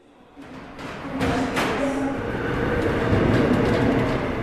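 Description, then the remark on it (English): Subway train in Seoul, South Korea, on a morning ride to work, running with a steady low rumble and rattling, a few sharp metallic screeches and squeals riding over the loud, continuous roar; no one talks. “On my subway ride to work this morning, the number was approaching 1,000.”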